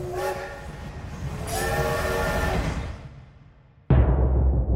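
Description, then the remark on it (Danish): A train door-closing signal sounds as a steady, slightly odd tonal hum over rumbling station noise, telling the train driver it is time to close the doors, repeating twice before cutting to a louder low rumble. “Denne her lidt mærkelige brummelyd fortæller lokomotivføreren, at det er tid til at lukke dørene.”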